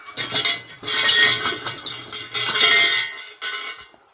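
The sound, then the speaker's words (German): A bell at a small Shinto shrine is shaken in several bursts, giving a bright, jangling metallic rattle that swells and fades, with brief pauses between the shakes. “Also jetzt bin ich genau hier vor einem kleinen Schrein und mach mal der Schreingott, der Kami, schläft zwar schon, aber ich rüttel trotzdem mal hier an der Glocke.”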